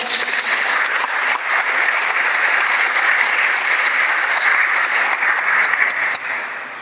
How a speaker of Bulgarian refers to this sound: Моля, аплодисменти!